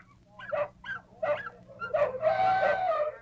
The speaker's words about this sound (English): Now the sea lions, splashing contentedly in their tanks, have added their raucous voices to the circus symphony of strange sounds.